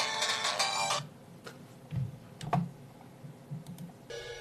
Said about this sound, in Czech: A už mi volá Zdeněk po telefonu, takže zjistím, co se děje.